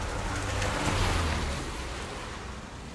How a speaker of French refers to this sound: Oh, regardez, une autre voiture.